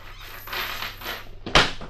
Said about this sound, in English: Well, so, if you're ready to meet Grandpa, let's open up this trap door and drop in.